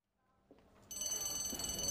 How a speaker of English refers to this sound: It's the fire alarm. Is it a test drill or is it real? I don't know.